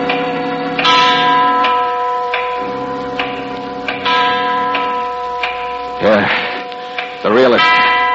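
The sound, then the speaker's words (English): A large clock mechanism winds up: sharp, evenly spaced clicks ring out over a steady mechanical drone, with two wavering, groaning sweeps rising up near the end. “It's the clock winding up.”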